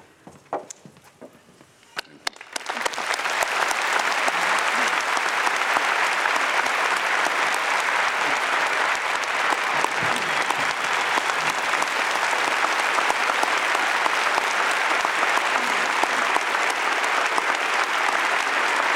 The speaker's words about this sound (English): I heard cheering in the audience. I think I also heard crying.